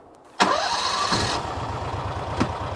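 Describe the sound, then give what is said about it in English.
An ATV engine cranks with a brief starter whine, catches abruptly and settles into a steady, low, chugging idle, with one sharp click near the end, as the ATV heads out across a bison pasture at high noon in hot weather. No one speaks. “A couple of young bulls run behind the ATV as it makes its way across the property.”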